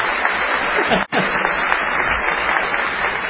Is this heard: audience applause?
yes